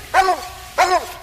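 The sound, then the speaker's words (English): Two loud, drawn-out barks from a coonhound, each a deep baying bawl about half a second apart, heard clearly with no talking. “Man, just listen, what a jaw on a dog.”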